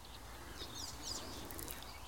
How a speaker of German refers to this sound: Aber der Vogel, auf den wir es abgesehen haben, der ist genau vor uns. Man hört vielleicht diese quietschenden Geräusche. Mie, mie, mie, mie. Mie, mie. Mie, mie. Also wenn er einen atypischen Sound hat, dann wäre es vielleicht dieser.